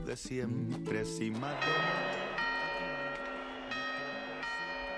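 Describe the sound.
Clock tower quarter chimes ring out in Madrid just before the New Year, in a series of bright, sustained bell strokes about a second apart, each tone lingering into the next, after a brief stretch of voices at the start.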